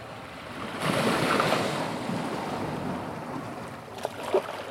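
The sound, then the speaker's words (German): Steady roar of ocean surf washing onto the shore at Lüderitz, a broad wash that swells after a second and stays continuous, with a couple of sharper splashes near the end. No voices. “Von der Schule sind es nur 10 Minuten durch die Bismarckstraße, vorbei an der Fischfabrik, bis hinunter ans Meer.”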